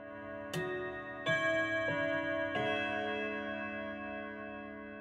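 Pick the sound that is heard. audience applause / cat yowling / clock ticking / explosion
clock ticking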